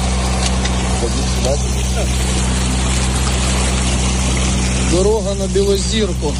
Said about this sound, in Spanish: Decenas de lanchas con personas anónimas están rescatando a gente de sus casas y de edificios totalmente anegados por el agua.